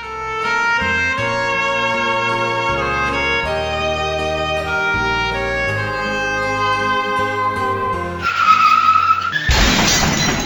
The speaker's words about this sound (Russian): Борис проснулся от резкого скрипа тормозов. Еще не успев открыть глаза, он почувствовал сильный удар и скрежет металла.